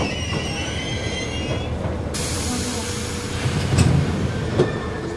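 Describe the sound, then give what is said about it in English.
A subway train rumbles steadily at a platform as its doors are about to close, with high metallic squeals ringing above the low roar and a couple of sharp clanks near the end, fairly loud. “My father is lingering for a bit too long on the subway platform. The doors of the train are about to close when I grab him by the lapels and pull him on board.”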